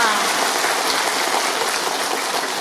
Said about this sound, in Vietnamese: Bây giờ mới là cho anh tràng pháo tay đi.